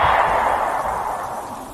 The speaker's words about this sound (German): Dann plötzlich ein Schuss.